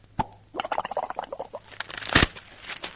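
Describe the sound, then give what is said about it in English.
A sharp knock, then a flurry of crackling, rustling snaps like branches and leaves being crushed, building to a heavy thump and a final scatter of rustles as a man keels over and tumbles into a rose bush. “Lord love a duck, he keeled right over in the rose bush.”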